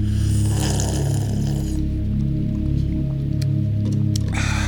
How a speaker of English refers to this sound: I'm drinking a little bit of bitter cherry cola before I go back to drinking my delicious...